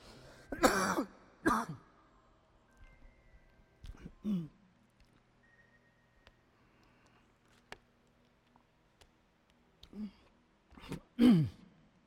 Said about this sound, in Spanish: Todavía tengo secuelas de la tos, no crean.